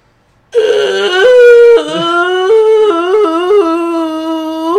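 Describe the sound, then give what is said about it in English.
A person imitates Godzilla's roar with one long, loud, wavering cry that rises and dips in pitch for about four seconds, sounding almost like a howl, with no talking. “So here's my impression of Godzilla doing a roar.”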